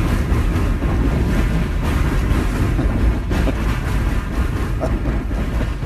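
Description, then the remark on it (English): A train rumbles past over a drawbridge in a steady, heavy roar, with faint rhythmic clacks of steel wheels over the rail joints running through the whole stretch. No one speaks. “And I wasn't able to visit the operator shack because of the pandemic, but I asked Butch to record the sound of a train passing.”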